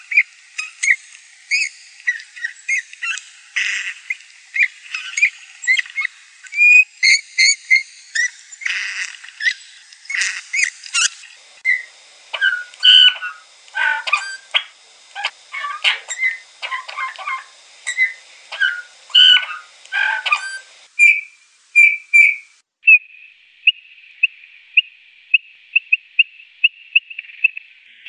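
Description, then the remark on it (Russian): A bullfinch among snow-covered trees gives soft, mournful whistling calls among a busy run of chirps and twitters, ending with a few steadier piping whistles. The sound is clear, with no voices. “А на самом деле еще лучше они слышны, и их меланхоличные свисты, фью-фью, выдают их пребывание еще задолго до того, как мы их увидим.”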